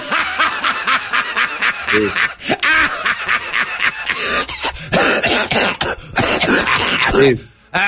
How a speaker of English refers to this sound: Sorry, I've been coughing up blood, spitting up blood, bleeding.